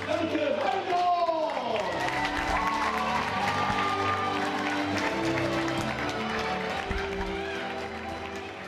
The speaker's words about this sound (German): Applaus für die Zirkuskinder des Zirkus Phantasia und natürlich auch Applaus für unsere Zirkuslehrerin,